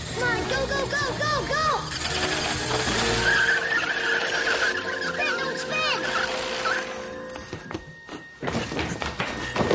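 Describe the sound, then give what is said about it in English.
A small motorized toy car that is videotaping whirs and squeals as it drives, with skidding, warbling tones and mechanical clicks, steady, dipping briefly before the motor revs up again. “I have it. The toy car.”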